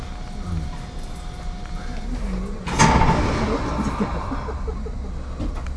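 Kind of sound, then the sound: vehicle, train sliding doors closing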